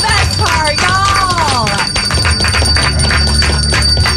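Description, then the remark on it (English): A small dog bell is rung rapidly and continuously, its bright metallic tone sustained throughout while voices cheer and shout loudly over it. “I proudly hand you the dog bell. Yes, I get to ring the bell.”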